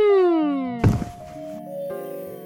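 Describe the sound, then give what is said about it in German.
A person falls over to the floor with a single heavy thud and stays lying there, preceded by a sliding downward tone and followed by lingering sustained notes. “Fällt einfach um und bleibt liegen.”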